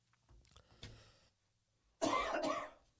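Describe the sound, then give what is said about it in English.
A soft throat-clearing rumble, then a brief pause and a loud, harsh cough, with no talking. “Can I get a cough button”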